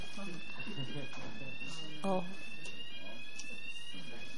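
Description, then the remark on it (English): A steady, high-pitched alarm tone from an alarm system sounds continuously throughout, fairly quiet, while people talk faintly underneath. “We have an alarm system. This went off before?”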